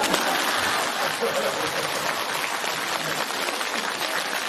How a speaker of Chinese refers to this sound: 鼓掌。